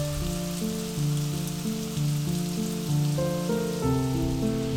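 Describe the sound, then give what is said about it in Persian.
Steady rain patters and drips off a sloped roof in a continuous soft hiss, while slow sustained musical notes play over it. No one speaks. “خوب گوش کن، صدای این قطره های باران را می شنوی که برای دیدنت عاشقانه خود را از روی شیروانی به پایین سر می دهند.”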